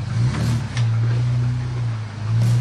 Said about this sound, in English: Even with the superior engineering Hyperflex arms, I would pick a wheel or carry a wheel every now and again. But for the most part, my truck articulates like a spider and climbs right over the boulders.